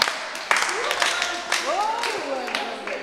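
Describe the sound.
A burst of applause at the final rehearsal of the dance company Del Gesto in Quimper, ahead of a Saturday show, with irregular claps running for about three seconds while excited voices call out and cheer over the clapping at a fairly steady, moderate loudness.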